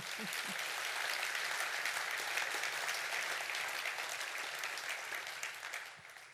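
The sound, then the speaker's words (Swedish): An audience applauds steadily, a dense, sustained patter of many hands clapping at even loudness, tapering off slightly at the very end. “En applåd.”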